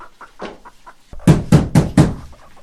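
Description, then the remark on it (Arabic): Four loud, firm knocks on a wooden door in a quick, steady rhythm, preceded by a few fainter taps. No one speaks. “من الطارق؟ من هذا المضطر في هذا الوقت من النهار؟ من خلف الباب؟”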